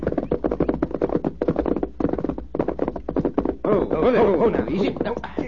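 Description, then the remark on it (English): Horse hooves clip-clop in a quick, steady rhythm for a few seconds as riders urge their worn-out horses toward a water hole, fairly loud, before a voice takes over at the end. “Yeah, horses are thirsty. We'll water them after we fill their canteens.”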